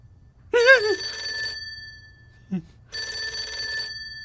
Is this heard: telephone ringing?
yes